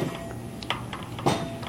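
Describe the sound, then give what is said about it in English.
A neighbor's welcome mat being beaten to knock the dust off: a series of muffled, irregular thwacks, some coming in quick pairs, over a steady background hum with no one talking. “It looks like my neighbor's knocking out his welcome mat over there to get all the dust off.”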